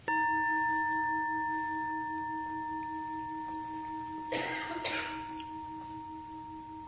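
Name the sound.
bell being rung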